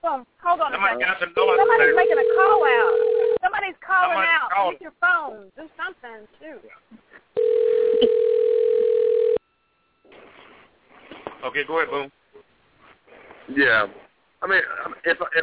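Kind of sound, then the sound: signal or alarm, telephone dial tone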